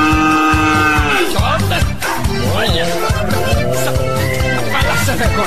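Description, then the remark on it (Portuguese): A calf moos in repeated, drawn-out calls with sliding pitch over a steady, rhythmic musical backing with a thumping low beat, all loud. “Eita Bezerro, duro de desmamar.”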